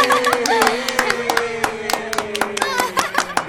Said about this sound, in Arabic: صفقوا لصديقنا